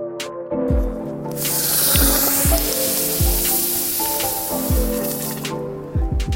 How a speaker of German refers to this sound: So klingt es, wenn man einen, ich würde mal sagen, 1,5-2 Kilo Basaltstein aus dem Feuer in die Würze steckt.